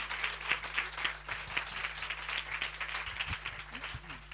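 An audience applauds steadily, a dense patter of many hands clapping at an even level for several seconds, with a low steady hum underneath and a few faint voices mixed in.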